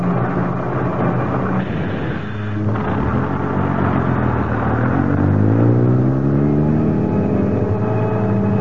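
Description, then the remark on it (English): A bus engine drones steadily on a long bus ride, a deep continuous rumble whose pitch climbs and settles as the vehicle accelerates through its gears, loud with no voices. “It was a long bus ride, but it seemed short to me.”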